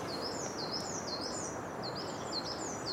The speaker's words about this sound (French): Mésanges huppées qui chantent un petit peu comme une bille qui rebondirait vite sur du carrelage. Là. Ça fait une vibration très aiguë. Elle nous passe au-dessus là. Ah bah voilà, on l'a entendu la mésange huppée là.